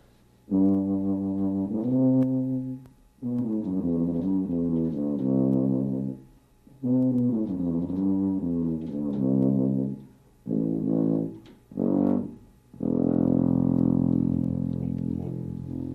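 A tuba, an instrument of about 25 pounds with buttons, a mouthpiece and a bell, plays a series of deep, buzzy notes in several loud phrases, some smoothly connected runs, a couple of short blasts, then a long sustained low tone to finish.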